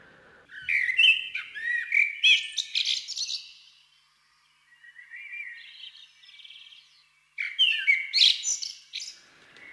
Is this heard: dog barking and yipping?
no